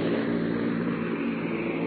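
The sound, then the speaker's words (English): A loud, steady engine drone fills the cabin, a dense low rumble with a constant pitch and no pauses, heard from inside a C-47 transport plane carrying paratroopers for a drop over the Netherlands, recorded by Ed Murrow. “Ed Murrow, from inside a plane, described how the paratroopers jumped.”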